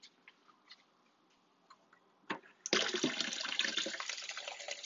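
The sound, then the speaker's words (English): A few soft clicks and taps, then a sudden loud, steady splashing rush of water being poured into a cup, half a cup of water added to a protein smoothie, continuing unbroken to the end. No one speaks. “Another half a cup of water.”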